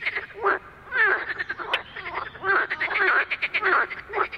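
Male marsh frogs (Pelophylax ridibundus), the largest frogs in Europe, calling in a loud, overlapping chorus of rapid, chuckling croaks that rise and fall in bursts, continuous, with no voices present.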